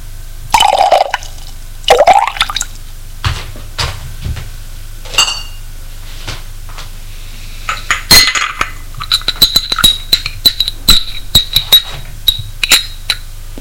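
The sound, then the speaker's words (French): A drink is poured neat into a glass in two short bursts, the gurgle rising in pitch, followed by glassy clinks and a quick run of light, ringing taps. No one speaks. “Se sert, elle aussi. Moi, je le prends pur.”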